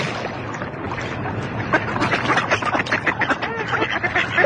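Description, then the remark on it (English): A flock of ducks on a lake quacking as they come to be fed bread, in a busy, overlapping chorus of harsh calls that grows louder and denser after the first second, over a steady outdoor background hiss. “The ducks are coming now.”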